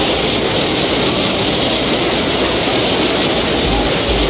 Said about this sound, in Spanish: Vean cómo está la maquinaria, hasta un grupo electrógeno o varios, que se los lleva el agua. Ahí vemos las cajas con herramientas, con maquinaria, como el río se lo lleva.